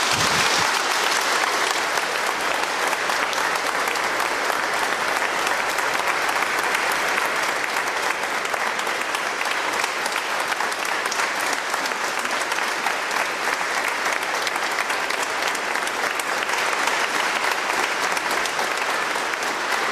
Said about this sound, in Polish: No, klaski się zrywały, ale jakoś takie nieśmiałe, no nie wiem czemu.